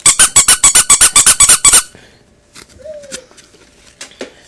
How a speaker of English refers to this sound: He buys a shiny whistle and goes tooting out the door. The policeman blows his whistle as he waves the traffic through. Eddie acts just like him, and he toots his whistle too.